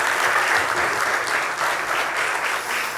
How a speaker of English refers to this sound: Thanks, guys. You can give them a round of applause this morning.